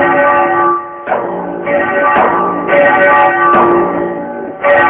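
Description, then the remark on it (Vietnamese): Shaolin monks ring a temple bell loudly again and again, each strike leaving a bright, sustained tone, with heavy drum beats landing alongside the strikes in a steady ceremonial rhythm. “Hôm nay các chí sĩ Trung Nguyên đồng tâm hiệp lực quyết chiến với bọn thác tử, các vị sư phụ phái Thiếu Lâm chuyên lo kéo chuông đánh trống, xin hãy giống chuông đánh trống lên cho.”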